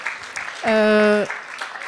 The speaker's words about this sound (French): Voilà. Le public applaudit, bravo. Bravo, bravo.